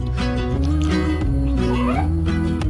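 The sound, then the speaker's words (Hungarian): A cat meows loudly in drawn-out, wavering cries that slide up in pitch, several running together over a steady, droning musical background, in a Whiskas cat food advertisement. “Mert ha a cica boldog, a gazdi is az.”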